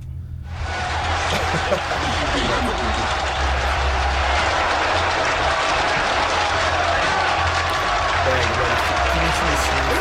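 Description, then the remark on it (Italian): Loud, sustained applause from a large audience starts abruptly and holds steady, a dense wash of clapping with crowd murmur and a low rumble underneath throughout. “Tanto però ci ho provato gli applausi, aspetta, li facciamo sentire.”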